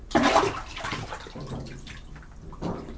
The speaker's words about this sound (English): That was a splash, just in case there was a puddle. That was for effect.